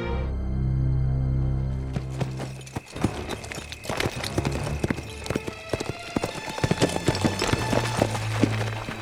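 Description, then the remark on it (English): Horse hooves gallop in a rapid, continuous drumming rhythm, loud, following a brief low sustained tone at the start: a rider on a fresh horse racing back to town. No voices are heard. “Rocky switched saddles to a fresh horse and beat it back to town minutes after the hands had ridden in and discovered the bodies.”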